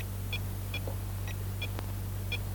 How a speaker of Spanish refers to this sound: El famoso impulsor Reagan. ¡Oh, maravilloso! Naturalmente, solo hace falta apretar el botoncito y ponerlo en marcha, así.